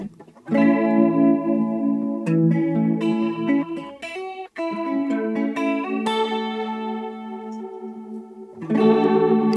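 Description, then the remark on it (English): Sustained synth chords thickened by a lush Solina-style ensemble chorus effect, made from three out-of-phase LFOs giving a slow and a fast movement at once, shimmering and wide, changing harmony every couple of seconds with a brief cut midway; loud and without any voices. “So it's like three out of phase LFOs that are, they're like a sine wave with a faster sine wave overlaid on them.”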